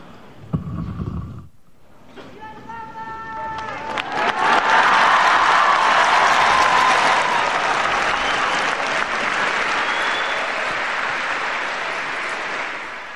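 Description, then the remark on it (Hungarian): A big crowd of many people breaks into sustained applause at the end of an audience, dense clapping that builds quickly and stays loud for several seconds before easing slightly, following a brief voice and a few sung tones of a Latin blessing. “A kedves hallgatók hallhatták ugye, hogy sokan vannak, hiszen a taps vihar az nagy volt ma is, és ezennel véget is ért a mai audiencia.”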